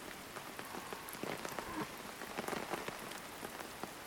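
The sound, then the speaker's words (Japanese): Steady rain patters down on a hard surface, heard from under a roof, a dense hiss broken by many brief, sharp drop impacts at an even, moderate loudness, with no voices. “ここ屋根があるから、だからいるだけ。うん、雨降ってるから。”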